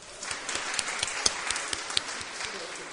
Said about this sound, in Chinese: 好，咁我哋好多谢我哋众恩堂最新成立嘅宣教队伍。好，大家俾啲掌声佢哋。